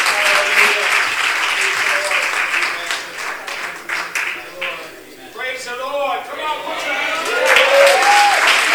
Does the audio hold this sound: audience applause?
yes